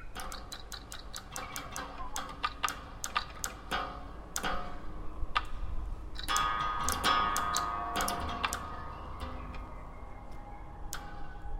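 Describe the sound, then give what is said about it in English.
Electronic birdsong of sharp, rapid clicks and ticks chirps irregularly, with a brief tonal warble midway, played in an outdoor light installation among trees with flashing green lights, over a steady low rush of wind rustling through the trees' leaves. No one speaks. “with green lights flashing on and off, and the sound of electronic birdsong.”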